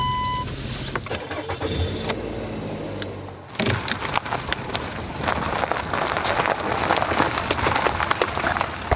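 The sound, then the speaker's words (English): A grandmother's car engine turns over and rumbles low for a few seconds, then gives way to a steady, hissing wash of driving noise dotted with crackles and ticks. No one speaks. “We can also drive that car if we need to.”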